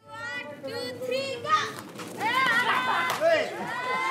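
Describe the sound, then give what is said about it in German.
Children shriek and shout loudly as they run through the ruins of their earthquake-hit village in Nepal, boys split into two teams throwing water bombs at each other; their high-pitched cries overlap in a continuous, energetic chorus with bursts of squealing throughout. “Laut kreischend rennen die Kinder durch das, was von ihrem Dorf übrig geblieben ist.”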